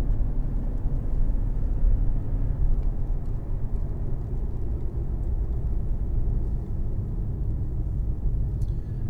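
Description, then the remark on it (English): A big, heavy car accelerating, heard as a deep, continuous engine and road rumble that stays loud and steady for the whole stretch, with no voices. “But when it accelerates, it certainly does accelerate nicely. Especially being such a big, heavy car.”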